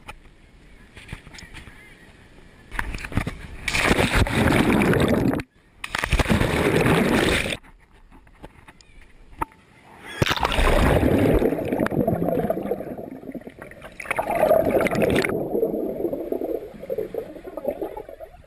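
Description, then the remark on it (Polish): Outdoor lakeside ambience at an unguarded beach in Borówno, with water sounds coming in several loud, rushing bursts separated by quieter stretches, and occasional honking waterfowl calls in the background. “Jesteśmy na plaży w Borównie, na niestrzeżonej.”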